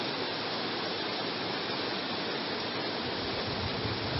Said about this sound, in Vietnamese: Các vị mưa làm gì mà mưa to thế, thôi giảm bớt mưa đi, mưa mọi người không nghe được.